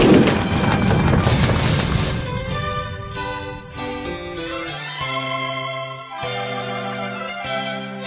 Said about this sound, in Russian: На следующее утро грянула королевская пушка.